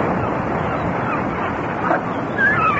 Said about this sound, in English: What's that? Seagulls. At least I think that's what it is.